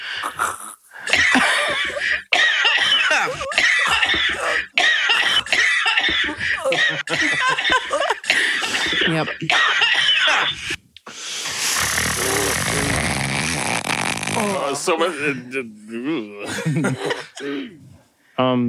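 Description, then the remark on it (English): A rapid series of harsh coughs and throat-clearing rasps fires off in quick bursts, then gives way to a long, breathy hacking strain and some croaky, groaning throat sounds. “God, is that just all like a page of all my throat noises?”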